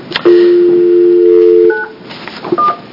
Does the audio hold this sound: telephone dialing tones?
yes